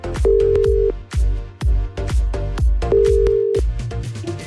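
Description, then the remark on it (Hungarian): Two steady, mid-pitched ringback tones of an outgoing phone call placed by the Petőfi Rádió Kívánság műsor request show to deliver a personal message, each lasting under a second and spaced a few seconds apart, sound over a loud, thumping rhythmic music bed. “Add meg a címzett telefonszámát, én pedig rácsörgök, és átadom neki a te személyes üzeneted.”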